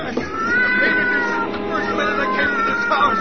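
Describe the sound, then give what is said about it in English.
A cat, Lady Susie, yowls and screeches in a long, wavering, insistent cry that rises and bends in pitch, loud, continuing without a break, writhing and scratching as a man tries to push her into a furnace. “drop that cat this instant.”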